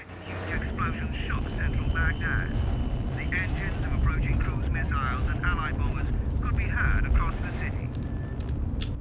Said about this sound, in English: 6 weeks later, nighttime in Baghdad, and explosions rip through the city, huge plumes of billowing fire rising into the sky.